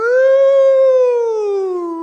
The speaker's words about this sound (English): Woo! The danger. That was a terrible alarm. Sorry. It was awful.